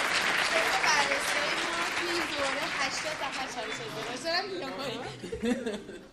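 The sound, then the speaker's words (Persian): A crowd claps steadily for several seconds, a dense wash of applause with excited voices and scattered chuckles mixed in, tapering slightly near the end. “باش تو افتخارش تشویقش کنم بعد.”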